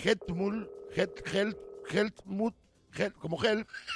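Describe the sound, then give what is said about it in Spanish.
A steady electronic telephone tone sounds for a couple of seconds beneath a person talking, then stops while the talking continues, as a call is placed to the security director of Munich airport. “Entonces, está todo al local, teléfono y vamos a hablar con él ahora.”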